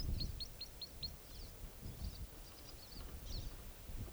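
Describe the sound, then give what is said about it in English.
Crossbill song coming from the roadside: a quick run of five high, clipped chip notes, then looser bursts of sharp twittering, all fairly faint over a steady low wind rumble. “Definitely Crossbill's song coming from the roadside.”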